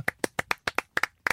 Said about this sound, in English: No, just clap, that's all I want.